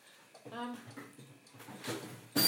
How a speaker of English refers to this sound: Sorry, that top drawer of this freezer squeaks.